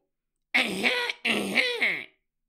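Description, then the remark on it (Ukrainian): Professor Umbridge makes a loud, deliberate fake cough, two exaggerated throat-clearing bursts in quick succession, with no talking around them. “Професорка Амбридж кашлянула дуже голосно.”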